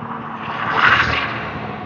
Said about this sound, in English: waiting for this truck.